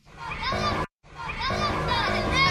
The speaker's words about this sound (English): No, those are the children outside. So I was going to say, there's either kids or cats squawking in the background.